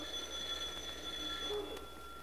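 A bell rings continuously for about two seconds, a steady, shrill, high-pitched metallic trill with a low background hum and no talking.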